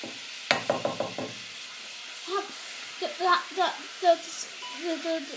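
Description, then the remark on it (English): Butter melts, sizzling and hissing steadily in a hot saucepan over a hot ring, with a sharp metallic clink near the start. A voice speaks quietly over the frying in the second half. “You can hear that sizzling there, it's melting the butter.”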